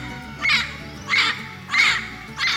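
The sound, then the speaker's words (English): A parrot squawks four times in a steady rhythm, each harsh, raspy call loud, spaced well under a second apart over a faint low background hum. “And what's a pirate without his parrot?”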